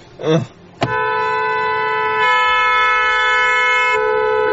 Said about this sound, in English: Jeffy, get off the horn, Jeffy. Huh? Well, you're on the horn, Jeffy.